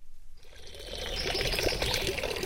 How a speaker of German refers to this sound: Ein Brunnen plätschert.